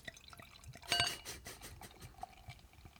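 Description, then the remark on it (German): Beer from a swing-top bottle splashes and gurgles into a glass, with a brief louder gush early on, then softer trickling, drips and a faint clink of glass. No voices. “So, Gießi, Gießi.”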